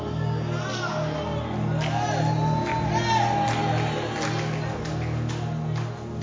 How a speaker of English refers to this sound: Let me continue my message. I don't know what you are. I don't know why you are shouting.